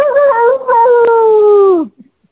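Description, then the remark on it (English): A person imitates a howl: one loud, sustained voiced tone lasting nearly two seconds, briefly dipping early on, then sliding down in pitch as it fades out. “I play Reuben Glazer, a Harkoon, and Jeremiah, this howl is for you.”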